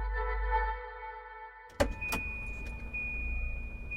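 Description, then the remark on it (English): A car engine hums steadily as a car pulls up and flashes its lights, then two sharp thuds land in quick succession and the engine keeps running under a broad, rough rumble, with no voices. “As they cleared the last hurdle, a low fence, a car pulled up and flashed its lights.”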